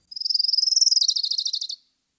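An orange-crowned warbler delivers a fast, dry, rather unmusical trill of rapid repeated notes, high-pitched, lasting under two seconds and sagging slightly in pitch toward the end, with silence around it.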